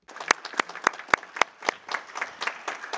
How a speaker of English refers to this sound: Allow me to invite colleagues here to give a round of applause to the interpreters who have supported us through the meeting.